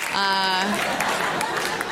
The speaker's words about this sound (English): Thanks for clapping at my whoredom.